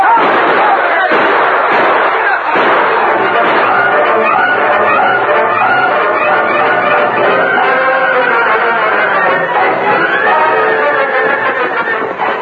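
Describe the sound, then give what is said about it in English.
Stallions gallop down a dusty street amid sharp bursts of gunfire as masked men race to safety with bullets flying thickly about them, a loud, dense and continuous commotion with voices shouting through it. “Bullets flying thickly about them, the masked men and Tonto raced to safety, their powerful stallions thundering down the dusty street.”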